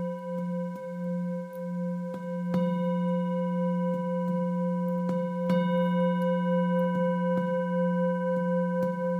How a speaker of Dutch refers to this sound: Laat ze maar op de trillingen van de klankschaal weg laten trillen.